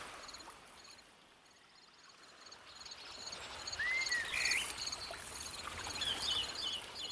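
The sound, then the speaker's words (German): Water flows in a steady, soft wash, with insects chirring throughout and a few brief bird calls rising over the top. No one speaks. “Und spüre, wie diese Liebe in deinem Körper ankommt und überall hin fließt, so wie das Wasser, was du gerade hörst.”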